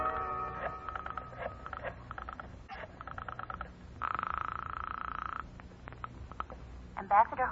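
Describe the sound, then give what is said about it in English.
Bursts of rapid clicking pulses, like a rotary telephone being dialed, come in several quick runs as someone phones a lawyer, broken by a steady buzzing tone in the middle, with faint background noise throughout. “I'll call him for you. I'll get him on the phone right now.”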